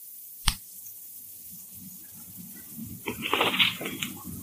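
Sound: book pages being turned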